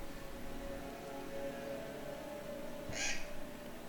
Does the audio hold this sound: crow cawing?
yes